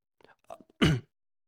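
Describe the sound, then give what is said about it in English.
A quick, breathy intake of air followed by a single loud, explosive sneeze that bursts across a broad range and cuts off abruptly, leaving silence after. “Bless you.”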